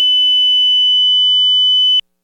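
A steady, pure sine test tone held at a constant high pitch for about two seconds, loud and unwavering, then cutting off abruptly into silence.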